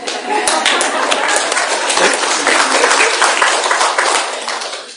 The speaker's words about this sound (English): Thanks for that beautiful testimonial. Yeah, to the kid. Yeah, we all want to clap.